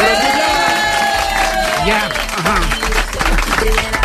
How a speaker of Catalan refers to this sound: Molt bé, la gent que està aplaudint que no és assajament.